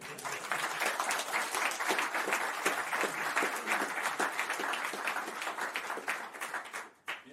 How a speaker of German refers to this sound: Das ist so in die Fragen übergegangen, aber wir machen erstmal einen Applaus.